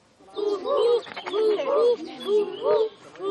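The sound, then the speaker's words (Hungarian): Several children's voices make repeated hooting, cooing calls in overlapping bursts, imitating the deep hoots of a Eurasian eagle-owl to coax out an eagle-owl chick at the Veszprém zoo, steady over a few seconds. “A nagy füles bagoly hangját utánozva próbálják előcsalogatni az uhu fiókát a gyerekek a Veszprémi állatkertben.”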